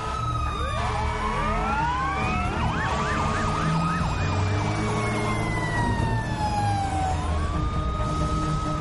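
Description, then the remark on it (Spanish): Several sirens wail and yelp at once over the rumble of heavy engines, overlapping rising and falling tones, loud as two fire trucks carrying firefighters pull out of the station garage and drive off to a call. “Suben a los camiones. Bueno, vamos, chicos. Dos camiones van al lugar antes indicado por la megafonía.”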